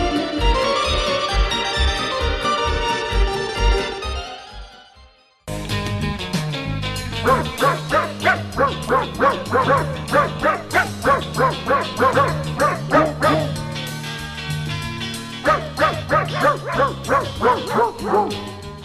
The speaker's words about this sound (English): These huskies have spent this past winter providing sled rides to the public with some help from volunteer mushers